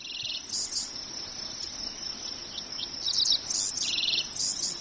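Dickcissels, field sparrows and common yellowthroats fly over Seth Watkins' farm in the hills of southwest Iowa, singing repeated bright, chirpy phrases over a steady high insect drone, several songs overlapping, with no voices.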